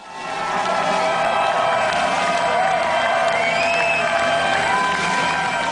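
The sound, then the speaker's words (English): A large concert crowd in Phnom Penh cheers and applauds continuously at a May 13 concert marking the 60th anniversary of U.S.-Cambodian relations, a dense, loud wash of clapping with scattered whoops and high shouts rising over it, swelling in quickly and holding steady throughout. “You can hear the cheering crowd.”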